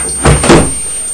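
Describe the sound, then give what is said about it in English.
A spring-loaded cupboard door snaps shut very quickly with two quick thuds in rapid succession, fairly loud, with no one speaking. “That was the cupboard door. They spring shut, don't they, very quickly.”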